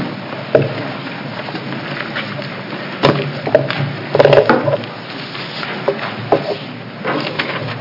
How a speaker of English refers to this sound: I'm going to ask that a fourth chair be brought up